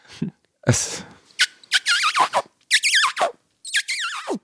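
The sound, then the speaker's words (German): A voice makes a series of high, squeaky kissing-like squeals, several short wavering bursts in quick succession with brief pauses between them, fairly loud and alone without speech. It imitates the squeak heard when Willy and Kate kiss in a children's TV series. “Es ist eher so ein Quietschen, ne? Ja, aber das kommt ihm sehr nahe.”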